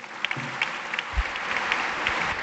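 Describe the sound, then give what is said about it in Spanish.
Steady applause from a crowd after a speech at a medal ceremony in Madrid, a dense wash of clapping with scattered sharper claps standing out, sustained at an even level throughout with no voices. “Y ahora se espera también un aplauso cerrado después de la entrega de la medalla de categoría de plata a otro colectivo muy relacionado con la seguridad de todos los madrileños.”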